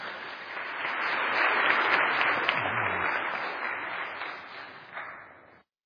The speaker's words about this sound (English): Please give them a round of applause as they prepare.